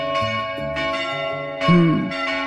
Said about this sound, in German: Wir spielen Kirchenglocken und Sie wissen, wo das ist. Hören wir mal rein.